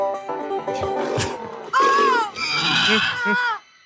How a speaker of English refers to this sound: And why does it make a pig sound again? Well, the other good that part is that sound. What noise would you expect a dog banjo player man hybrid to make? I was actually expecting a donkey sound, quite frankly.